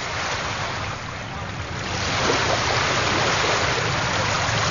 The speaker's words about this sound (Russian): Слышите? Прибой. Море зовет.